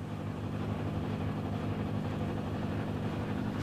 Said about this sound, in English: The engines never stop. They don't even take a lunch break. The constant noise gives me headaches and a faster heart rate.